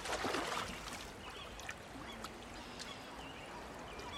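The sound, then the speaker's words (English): A Walkman knocked off a bridge ledge splashes into the water below, followed by a steady outdoor waterside ambience with faint bird calls and no voices. “The Walkman lands in the water below.”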